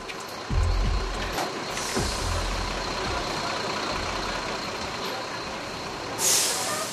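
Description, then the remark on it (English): Buses idle and rumble with low engine drone, a sharp hiss of air brakes bursting out near the end, over a steady outdoor traffic background. The buses are bringing migrants caught in Mexico back to villages and cities in El Salvador. “Buses bringing migrants caught in Mexico heading north to the USA back to villages and cities in El Salvador, apprehended or deported by the authorities.”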